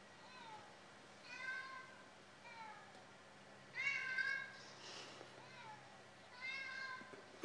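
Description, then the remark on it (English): Three cats, Chi, Stripes and Saffron, meow in turn in a cat room with drawn-out, wavering, overlapping cries, the loudest burst near the middle. A low steady hum runs underneath, with faint plunking clicks as Chi digs at her cage. “So in the cat room today, we seem to have a bit of a symphony featuring Chi, Stripes, and Saffron.”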